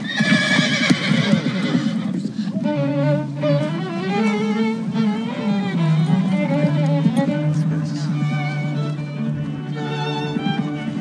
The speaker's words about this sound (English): Could we hold the horse, please? What's wrong with the horse? The horse seems more jittery than the bride.